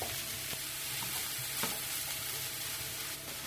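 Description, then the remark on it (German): Minced meat added to already browned onions, frying in a pan: a steady crackling sizzle with a few sharper clicks and scrapes from stirring, no one talking. “Das kann jetzt ein bisschen anbraten, bevor wir die anderen Sachen dazugeben.”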